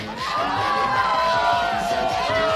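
A loud crowd screams and cheers continuously at an after-midnight party with a DJ, high-pitched shrieks and whoops layered over a dense roar of many voices, sustained throughout.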